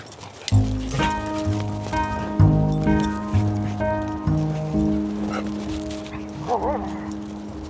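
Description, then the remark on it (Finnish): Dog park ambience before an election: dogs barking and yipping intermittently, mixed with people talking about politics and scattered background movement. “Vaalien alla myös koirapuistossa puhutaan politiikkaa.”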